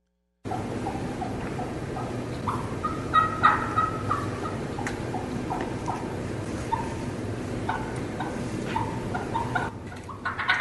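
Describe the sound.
A turkey call played on stage works through a sequence of raspy yelps, with a quick, uneven cackle burst early on, then steadier spaced yelps over a constant low background hum.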